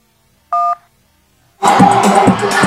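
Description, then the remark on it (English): A single short phone keypad DTMF tone, a clean steady dual-pitched beep lasting about a quarter second, then a pause before a louder, busy wash of sound takes over. “If you want to hear the next voicemail, please press the 1, press the number 2 to save only this message, and press the number 3 to delete this message.”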